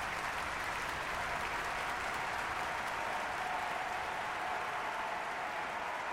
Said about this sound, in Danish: Forestillingen modtog en times lang bifald.